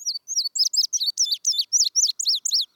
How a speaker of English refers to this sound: Today, rather than the roar of cannons, fields like Antietam are filled with the songs of blue grosbeaks. Eastern meadowlarks, field sparrows, indigo buntings,